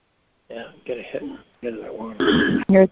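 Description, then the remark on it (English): A person clears their throat after taking a sip, in several short, voiced rasps, building to a louder, harsher final burst. “I don't like having to clear my throat.”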